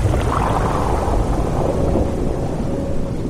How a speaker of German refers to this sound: Navigator Frogbot, Tauchgang vorbereiten. Verstanden, Captain Jojo Johannes. Alles klar zum Abtauchen. Achtung, U-Boot, Taucher! Eie, Eie, wir tauchen ab.